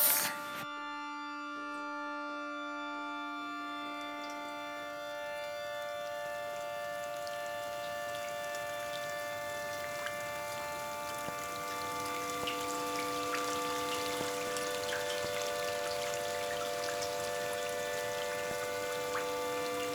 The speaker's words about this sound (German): Der Tümpel. Der Wassertropf, Tropf, Tropf, Tropf, Tropf, Tropf, Tropf, Tropf, Tropf, Tropf.